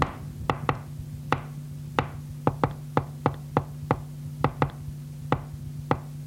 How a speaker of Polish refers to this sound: A w październiku przeprowadziliśmy taką próbę. Mnie przyszła do głowy taka myśl, żeby mu wypukać jakąś melodię. I ja mu wypukałem to.